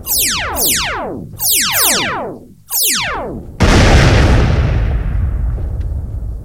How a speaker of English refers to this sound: That was a bigger bang than I expected. Her super weapon must have gone off inside her ship. Indeed, the Vampire Queen's vessel appears to have been swallowed by a spontaneously generated black hole.